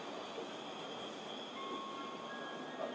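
train

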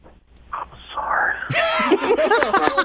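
sneeze

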